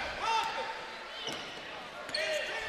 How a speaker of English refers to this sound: Here's Odom with it. Dribbles up top.